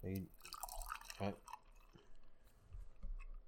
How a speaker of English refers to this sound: I poured some Chobani oat milk into the mug.